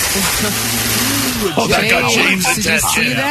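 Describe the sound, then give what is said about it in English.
A home-built, beer-powered motorcycle's engine runs with a steady, droning hum for about a second and a half, then people's voices take over while the engine noise continues faintly underneath. “… has built what he believes is the world's first beer-powered motorcycle in his garage in Bloomington.”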